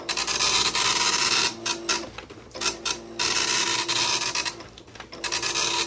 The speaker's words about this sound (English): Oh, that's it's a printer. Can you be more specific? Oh, wow, that is. Oh, wow. It's an older printer, I know that. Yeah, yeah, yeah. But I can't. Is it a dot matrix printer? Did you say dot matrix printer? Yeah. Yes, yes, yeah, he did.